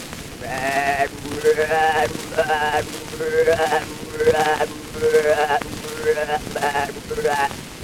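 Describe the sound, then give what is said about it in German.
A voice imitates a billy goat on an old gramophone recording, letting out about eight quavering, nasal bleats in quick succession, fairly loud, with a faint windy hiss underneath. “Ein Ziegenbock.”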